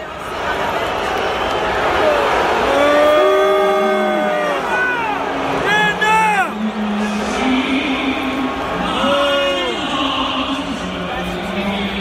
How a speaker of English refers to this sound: Certainly, here's sound from the New England Patriots fans. This was yesterday, booing players who knelt during the national anthem.